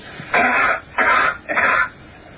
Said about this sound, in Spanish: O sea, la primera entrada es la tos en la Tierra. La tos en la Tierra. Y la segunda ya sería la tos o si se produjera en Marte en las mismas condiciones.